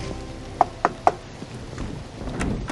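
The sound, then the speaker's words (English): Three quick, evenly spaced, sharp knocks on a door, followed by a low background rumble with no voices. “This is the one knock I dread, and it never gets easier.”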